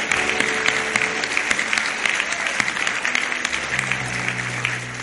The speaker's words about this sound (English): Let's just give the Lord a clap offering again. Thank Him. Thank you, Lord. Thank you, Lord.